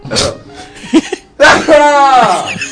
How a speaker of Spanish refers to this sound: Uy, perdón, voy a estornudar.